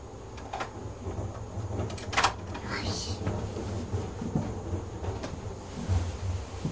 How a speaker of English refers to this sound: What's that noise? Yes. That's somebody taking their wheelie bin back inside.